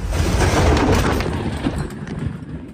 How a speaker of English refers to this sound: This is sound from video taken by the armed forces of the Philippines. It's from March 5th, when two Chinese Coast Guard ships turned high-powered water cannons directly at a Philippine ship in a contested shoal.